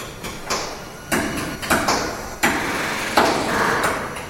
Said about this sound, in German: Bohren, Vornieten, Setzen, Nieten. Hier werden in einem Dutzend großer Hallen jährlich über 200 Airbus-Passagierflugzeuge zusammengebaut.